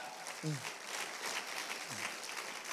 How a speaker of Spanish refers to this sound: Gloria a Dios. Denle un aplauso al Rey de Gloria.